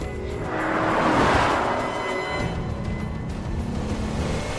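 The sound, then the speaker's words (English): A car engine revs and climbs in pitch as the car is driven swiftly at night on a wide road, dips briefly as it shifts up a gear, then carries on in a steady, lower driving drone. “shifts up a gear.”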